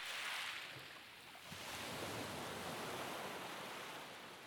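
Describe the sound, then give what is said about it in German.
Ocean waves rush steadily in a broad, hissing wash, one surge easing briefly before another rolls in, continuous with no voices. “Du genießt den Blick über das Meer, das Rauschen des Meeres wirkt sehr beruhigend auf dich.”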